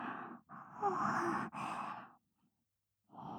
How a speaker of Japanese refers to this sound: すみません。ご主人様にあくびを聞かせてしまうなんて。